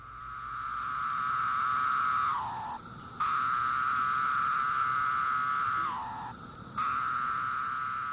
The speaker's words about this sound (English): The three species of cicadas each have their own jam. And so one of the most common on the East Coast is the really mellow sound, and it sounds like a low whistle.